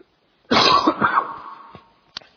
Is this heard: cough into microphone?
yes